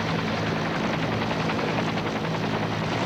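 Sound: helicopter taking off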